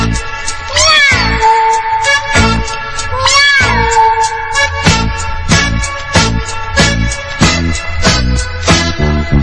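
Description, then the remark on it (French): Bouncy children's dance music with a steady thumping beat, overlaid with loud, repeated cartoonish cat meows that rise and fall in pitch near the start and recur through the track. “À présent, les canards laissent la place aux chats, puisque c'est la danse des petits chats.”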